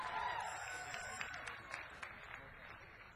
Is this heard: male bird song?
no